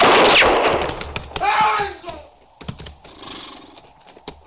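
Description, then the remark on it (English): A single loud gunshot, fired by Hook, cracks right at the start and rings out, followed by scattered sharp knocks and a brief horse-like whinny in the background. “It was Hook shot him, sir, before anyone could stop him.”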